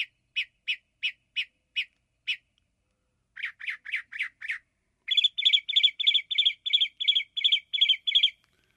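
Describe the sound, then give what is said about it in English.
Northern mockingbird song, alone: a run of about six harsh, evenly spaced notes, a brief pause, a quicker burst of lower notes, then a rapid, brighter repeated phrase. “You're going to tell us about the northern mockingbird is one.”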